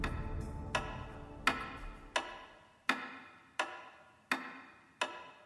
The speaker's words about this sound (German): Ein einfaches Pendel, wie man es in jeder Wanduhr findet. Es bewegt sich gleichmäßig, berechenbar, vorhersagbar.